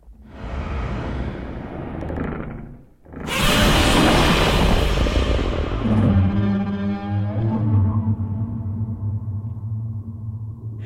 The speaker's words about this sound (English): But of course, we heard Godzilla's growl, but what Godzilla is best known for is that incredible roar, right? So actually, first, let's hear the roar you created for Godzilla Kong.